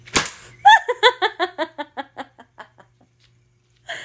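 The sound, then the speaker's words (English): One sharp whip crack snaps right at the start, then a rapid run of rhythmic, giggling vocal bursts follows and gradually fades to quiet before a short final sound. “Oh, do you like my whip?”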